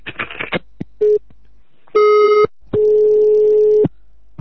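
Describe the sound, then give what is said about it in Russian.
A telephone rings with steady electronic tones: a short beep, then two longer buzzing tones with brief gaps between them, clear, after a moment of rustling noise. “какой-то туманой пидор ебучий, вонючий звонит, блядь.”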